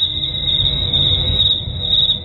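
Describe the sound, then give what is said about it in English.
Steady cricket chirping plays as a continuous trill over a low background hum, moderately loud and unbroken for a couple of seconds, with no voices. “Cricket time. Boring. Cricket time.”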